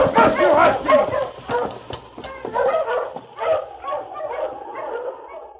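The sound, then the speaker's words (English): A sled dog team barks and yips excitedly all at once as it comes to a stop outside the constable's office at Whitehorse. The dense, overlapping chorus gradually settles into scattered whines and yelps as the team halts. “Sergeant Preston and Yukon King were in the constable's office at Whitehorse when they heard a dog team come to a stop outside.”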